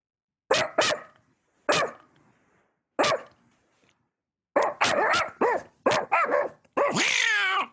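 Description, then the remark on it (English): A dog barks loudly, a few sharp separated barks at first, then a rapid flurry of barks ending in a longer, rougher howling yelp. “Oh, there's a dog.”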